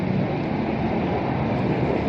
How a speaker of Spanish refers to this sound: ¿Es este el sonido de un carro minero o vagón minero volteado de manera manual?